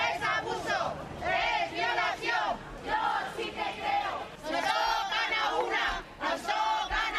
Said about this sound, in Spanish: Gritos de apoyo a las puertas de la audiencia de Barcelona mientras iban llegando los acusados.